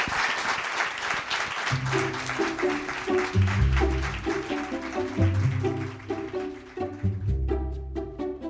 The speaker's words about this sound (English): It's been such a pleasure to have you. Let's say give a big warm round of applause for our panelists.